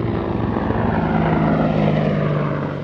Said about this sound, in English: Today, attack helicopters buzz low over the Shamali Plain, but these are U.S. Apaches with rockets and missiles on display as they fly out of Bagram.